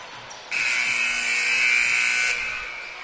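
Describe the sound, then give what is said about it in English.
A loud, harsh electronic buzzer at a court game blares in one sustained blast lasting about two seconds, sounded to clear players doing a shooting drill off the floor, then cuts off, over a faint background hum with no talking. “Buzzer is sounded a couple of times.”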